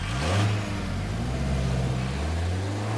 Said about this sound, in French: Et oui, en exclusivité, voilà le moteur de cette Mercedes de 1955. Oui, bon, c'est peut-être une Twingo, mais peu importe.